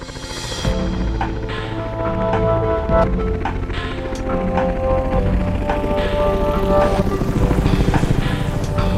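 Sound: helicopter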